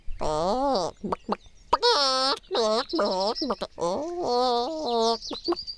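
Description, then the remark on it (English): A chicken clucks in a run of short, bending calls, about six or seven bursts over a few seconds with brief gaps between them, fairly loud and with no one talking. “There's the chicken she gave us.”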